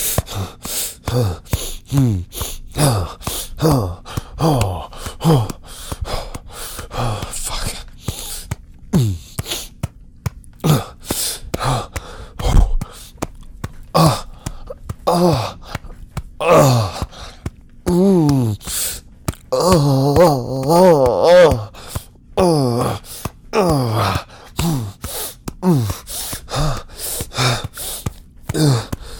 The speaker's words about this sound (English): Let me hear your moans and whimpers, baby. No need for us to hold anything in now.